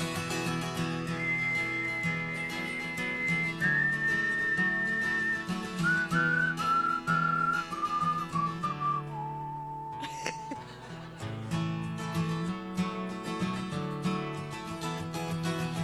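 A group whistles a melody over a full band backing, the clear tune stepping downward in sustained notes for several seconds before a brief break and the music continuing.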